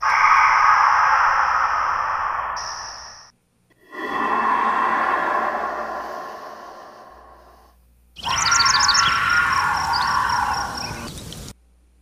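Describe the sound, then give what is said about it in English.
A purported Bigfoot roar: three long, loud, rasping howls of about three seconds each, separated by short silences, the last carrying a shrill whistling edge. No one speaks. “What they believe, what they're telling us, is the roar of a Sasquatch, Bigfoot, a gorilla, and a puma.”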